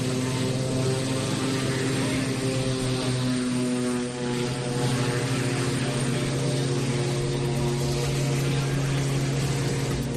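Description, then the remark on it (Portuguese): A firefighting propeller airplane roars loud, its engine droning steadily with a strong humming pitch and a broad rushing wash of noise underneath for the whole stretch, with no voices, as it makes a simulated water drop onto a runway. “Bueno, pois a modo de exemplo e de simulacro, os avións fixeron unha descarga en pista, pero non había que apagar nada, afortunadamente.”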